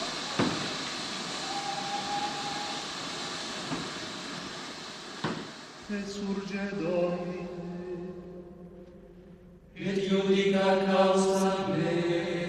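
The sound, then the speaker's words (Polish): A train grinds to a halt after the brake is pulled: a steady hissing rush with a few sharp metallic clanks, giving way to sustained high brake squeals that swell loudly near the end. “Co się stało? Stoimy. W szczerym polu? Ktoś pociągnął za hamulec?”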